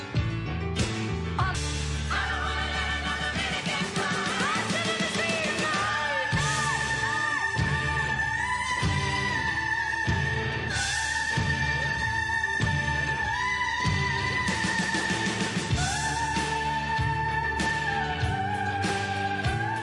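A loud, dense rock track plays throughout, with pounding drums and full band under a high-pitched female vocal that screams and wails in long, sustained notes.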